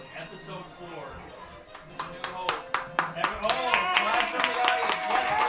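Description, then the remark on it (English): Murmuring voices give way to a group clapping, starting scattered and quickly building into steady, loud applause that continues to the end over the chatter. “Everyone, clap for the audience.”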